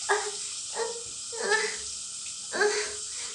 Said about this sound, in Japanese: 今ちょっと、こう手で、おまんこのビラビラ広げて、そこにシャワー当ててるんだけど、気持ちいい、やばい、ちょっと待って。